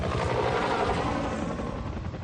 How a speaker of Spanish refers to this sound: El zumbido constante de los helicópteros sobre la selva.